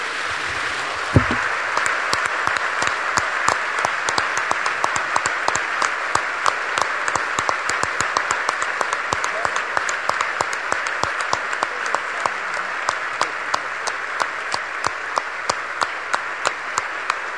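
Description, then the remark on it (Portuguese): A large group claps their hands for Jesus in sustained applause, a dense, steady patter of many hands that stays loud and even for the whole stretch with no voices on top. “Podemos dar palmas a Jesus, a quem nós amamos?”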